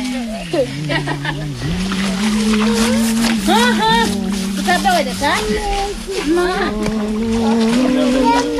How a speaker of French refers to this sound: Trois petits enfants noirs. Avec les femmes qui sont en train de laver dans cette rivière. C'est le jour de lessive aujourd'hui. Et on lave les enfants aussi aujourd'hui.